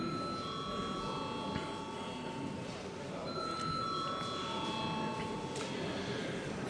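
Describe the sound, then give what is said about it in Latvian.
A parliament chamber bell rings before a vote, continuously for several seconds, a steady, bright metallic buzzing tone that holds without pause over a low background murmur of voices. “Lūdzu, zvanu.”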